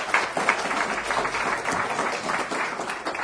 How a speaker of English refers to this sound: But if we could give a very, very nice round of applause for an excellent panel.